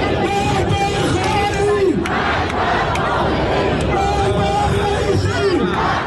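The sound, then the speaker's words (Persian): A large crowd of Iranians gathered in Trafalgar Square, London, chants protest slogans in unison, loud and continuous, with rhythmic shouted phrases rising and falling over a dense wash of voices and occasional sharp claps or whistles. “در لندن، ایرانی‌ها در میدان ترافالگار جمع شدند. این برخی از شعارها.”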